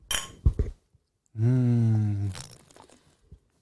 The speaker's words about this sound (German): Wollen wir mal anstoßen hier mit unserem Spatenbier?